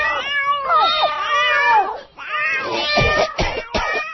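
Several pet cats, including ones named Twilight and Boxcar, meow outside in long, wavering, overlapping cries, rising and falling in pitch, followed by a few sharper bursts near the end.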